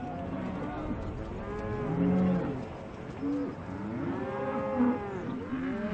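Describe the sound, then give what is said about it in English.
Several cattle moo in long, overlapping calls that carry on through the whole stretch, a steady chorus of deep lowing from a herd, with faint bird coos in the background. “Ranchers will tolerate elk as long as they don't compete too much with their cattle.”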